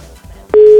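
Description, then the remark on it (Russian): A steady telephone busy tone starts abruptly partway through after a dropped phone call and holds loud and constant to the end, after a brief stretch of faint, muffled line noise. “Что-то у нас, что ли, не работает? Это у нас, да? все посыпалось у нас. Ну, запекся у нас телефон, все.”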